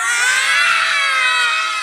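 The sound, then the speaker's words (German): A group of children roar together, imitating lions as they hop to their seats for a story, with loud, sustained, high-pitched voiced cries that overlap into one continuous din lasting almost two seconds. “Juhu, dann hopfen wir jetzt mal mit Löwengebrüll zu unseren Sitzplätzen.”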